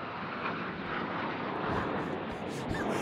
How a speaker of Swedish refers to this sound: Det där är ett stridsplan. De åker i formation. Ja, det gör de verkligen.